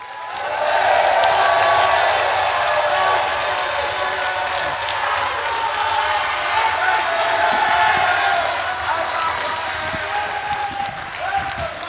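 An evening audience applauds Jake Davis and Ian Softley steadily with dense, continuous clapping, mixed with scattered cheers and whoops, staying loud for most of the stretch before easing slightly toward the end.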